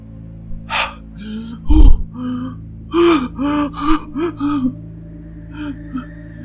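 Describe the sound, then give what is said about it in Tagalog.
A woman waking from a dream gasps sharply and then pants in a quick series of short, voiced breaths, loud and breathless, with no talking over them before the panting trails off. “Hingal na sabi ni Dina sa kanyang sarili at agad ay kinapa ang anak na wari ay nasa tabi pa rin niya.”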